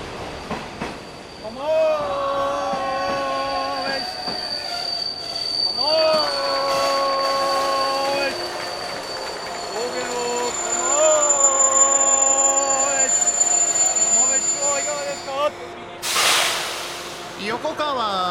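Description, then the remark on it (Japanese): The limited express Asama No. 37 (train 3037M), bound for Nagano, the last down express over the Usui Pass, pulls into platform 4 at Yokokawa Station, Japan, on 30 September 1997, about three minutes late; its wheels squeal in long, high sustained tones over a steady rumble, with a burst of hissing air brakes as it stops. “4番線に到着の列車は特急浅間37号長野行きです。”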